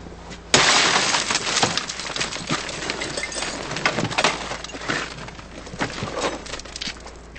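A car window is smashed in a vehicle break-in: a sudden loud crack, followed by several seconds of crunching, tinkling glass fragments and irregular sharp clicks that slowly thin out. No one speaks.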